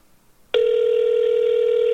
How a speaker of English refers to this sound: I'm not going to answer the phone. It's not going to do it. Yeah, I can tell because the answer machine's not answering.